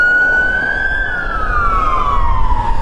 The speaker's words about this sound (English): Ambulance.